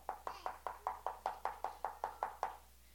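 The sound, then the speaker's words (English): A rapid, steady run of about thirteen firm knocks on a solid, home-built wooden object, fairly loud, each rap sharp and evenly spaced, with no voices over them. “You let Brother Wurst know he did a good job building this thing. This thing is solid. Man, this thing don't knock nothing.”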